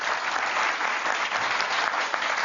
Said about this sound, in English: I called on, that's worth applauding as well.